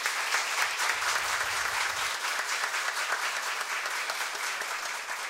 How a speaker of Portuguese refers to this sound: Vamos dar uma salva de palmas para essa casa de leis.